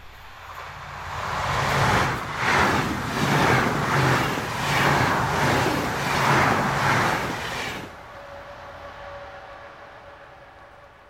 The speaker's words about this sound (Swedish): Och även fast det gått flera år sedan dess tänker jag på det varje gång pendeltåget svischar förbi.